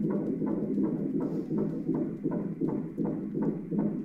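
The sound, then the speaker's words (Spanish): A fetal heartbeat at 13 weeks of pregnancy, picked up by a Doppler monitor, a fast, steady galloping whoosh of about two beats per second, muffled and continuous with no voices over it. “Ah, esto es el latido de un corazón de un bebé.”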